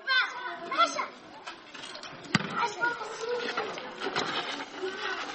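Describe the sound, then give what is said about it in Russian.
A thrown ball smacks the ground with a sharp thud, then bounces once more a couple of seconds later, while children shout and chatter throughout. “Теперь бросай обратно, только сильнее. Бросай! Бросай мяч!”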